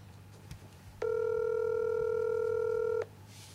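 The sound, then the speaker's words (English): A single steady telephone tone sounds for about two seconds, loud and clear, then cuts off abruptly. No one speaks. “I try to patch him in through the phone.”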